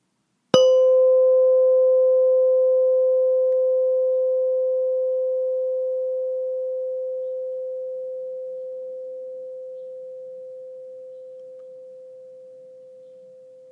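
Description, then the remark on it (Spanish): A single meditation bell is struck once, giving a bright metallic attack followed by a steady, pure mid-pitched tone that slowly fades over more than ten seconds, with no talking. “Ahora escucharás el sonido de la campana.”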